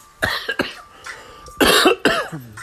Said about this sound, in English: You hear me coughing.